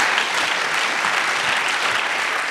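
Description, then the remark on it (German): Steady audience applause after a project presentation fills the whole stretch, a dense, even wash of many hands clapping at a fairly loud level with no voices standing out. “Ganz vielen herzlichen Dank. Applaus.”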